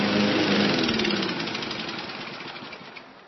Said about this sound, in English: 1 gallon of fuel in a lawnmower will mow about half your backyard.